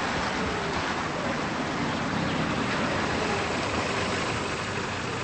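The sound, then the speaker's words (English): A car engine rumbles with a steady, broad roar as the vehicle pulls into the driveway of a two-story house and stops, with no voices and no clear change in loudness throughout. “The brown-haired woman's mother arrives in a car and stops in the driveway.”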